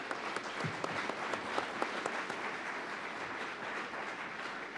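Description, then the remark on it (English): An audience applauds steadily to thank the candidates after an election debate, a dense wash of overlapping claps with a few sharper hand strikes popping out, sustained at an even level for several seconds. “All right, would you please join me in a round of applause thanking our candidates?”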